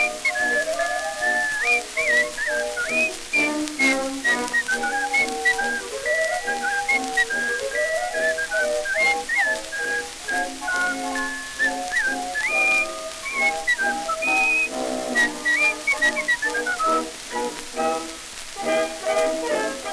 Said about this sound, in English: He'd whistle night and day in his own peculiar way. Indeed, he was as happy as a loon. And it made him feel so proud when he'd whistle out so loud. And this was his old familiar tune.